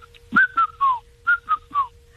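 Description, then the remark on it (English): A person whistles an imitation of a red-chested cuckoo: two sets of three descending notes, each phrase falling in pitch, clear and fairly loud with a short pause between the groups. “I'm always the first one in our neighborhood to hear the first peep my fro, you know, the red chested yes. cuckoo.”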